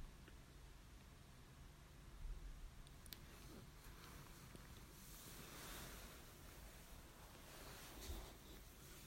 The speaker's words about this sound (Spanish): Escucha el ruido de las olas, ese choque rítmico de las olas contra la orilla del mar, que van y vienen hacia adelante, hacia detrás, hacia el interior del mar y hacia el exterior. Escucha el agua contra la arena.